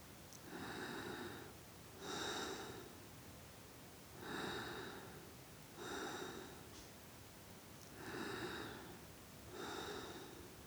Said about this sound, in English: This was some hardcore breathing, which was not amplified. But why? Because we have classifiers which analyze the audio and decide if the segment should be amplified. For example, nobody wants to hear breathing as loud as speech.